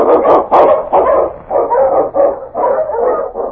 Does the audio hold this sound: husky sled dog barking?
yes